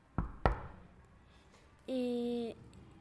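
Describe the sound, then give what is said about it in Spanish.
Two sharp, loud knocks on a door in quick succession, followed after a pause by a short, steady electronic buzzing tone. “y cuando nos despertemos ya todos, vimos la tele, desayunemos y ahora suena la puerta.”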